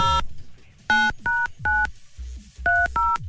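A phone number is punched in on a keypad to call a hit.com.au VIP prize winner live on air: a quick run of about seven short, clear touch-tone beeps at an uneven pace, with no voices.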